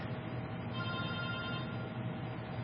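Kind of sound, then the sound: signal or alarm, cell phone ringing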